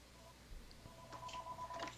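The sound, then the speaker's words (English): A mobile phone rings with a short electronic ringtone, steady tones lasting under a second, fairly faint and set against low background noise with no one speaking. “Yeah, I'm sorry, my phone just rung.”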